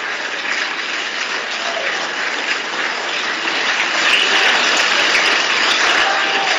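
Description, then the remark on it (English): Sustained applause from a large crowd in the chamber of the House in the Capitol: a dense, steady wash of many hands clapping that holds for the whole stretch and swells slightly louder toward the end, with no voices standing out. “Democrats are just kind of, you know, some of them not clapping.”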